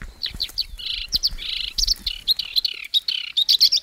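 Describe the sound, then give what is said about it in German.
A marsh warbler sings a fast, varied stream of chirps, trills and buzzy phrases, fairly loud, with no talking over the song, in a densely populated marsh warbler habitat of thick nettles above the banks of the canalized Beuze river. “Ein dicht besiedeltes Sumpfrohrsängerhabitat und damit für Kuckucke interessant.”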